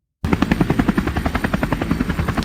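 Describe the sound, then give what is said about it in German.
A helicopter rotor chops loudly and steadily, its rapid rhythmic thudding continuous with an engine whine underneath, and no voices over it; the helicopter is flying a person in. “Ist das ein Helikopter?”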